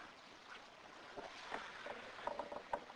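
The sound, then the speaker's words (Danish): Water splashes and sloshes against a steady watery hiss as the mouth is rinsed with water during ritual washing before prayer, with a few brief, sharper splashes toward the end. Moderately loud, with no voices. “skyller man munden med vand.”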